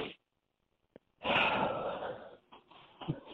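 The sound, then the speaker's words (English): Someone blows their nose hard into a phone in one long, loud, breathy honk lasting about a second, followed by a few short sniffly bursts. A brief soft puff comes just before. “Excuse me for blowing my nose in the phone.”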